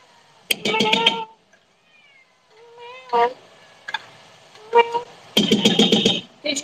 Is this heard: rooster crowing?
no